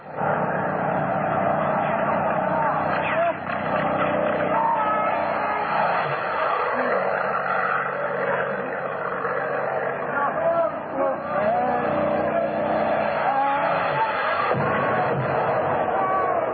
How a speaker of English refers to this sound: Look, the plane! There's two of them!